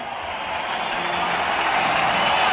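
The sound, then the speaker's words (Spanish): A packed crowd at the Manolo Santana court in Madrid roars in a sustained ovation for Rafael Nadal as he comes onto court, dense applause and cheering swelling slightly louder toward the end, with no individual voices standing out. “don Rafael Nadal Parera va a saltar a pista, una Manolo Santana llena a reventar, y esta es la ovación para don Rafael Nadal Parera.”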